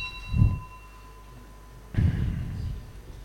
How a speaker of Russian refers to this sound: Нужно будет регулярно в течение лекции звонить колокол, думаю. Раз в минут, каждые минут пять, наверное.